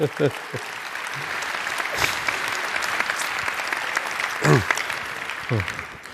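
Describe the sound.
An audience applauds a speaker being introduced before his presentation, a dense, even wash of clapping that holds at a moderate level throughout, with brief bursts of voices and whoops rising over it at a few moments.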